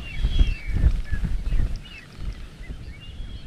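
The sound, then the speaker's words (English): Gusty wind buffets at the top of Bartolome island, overlooking an aqua bay and a white beach, with a deep, rumbling roar that surges and eases, while high bird calls chirp faintly in the background. “The wind blows harder.”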